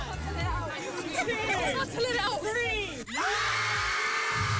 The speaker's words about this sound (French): Oui, c'est un nouvel antidépresseur, c'est le Scream Club. Est-ce que vous savez ce que c'est? Pas du tout. Non. Ah ben, ce sont des groupes qui se réunissent pour hurler dans la rue et ça donne ça.